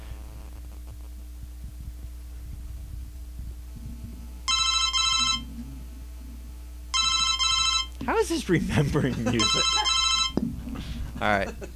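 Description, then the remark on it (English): A telephone rings in three evenly spaced bright, trilling bursts over a steady low hum, with a person speaking between and after the rings. “Sounds like a phone ringing to me.”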